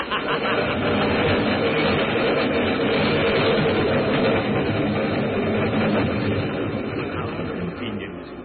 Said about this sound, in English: Yes, I was waiting for the 410 train to pass through. Here she comes. Yell your head off.